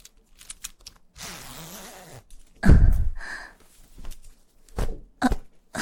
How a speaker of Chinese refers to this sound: 阿姨把拉链拉开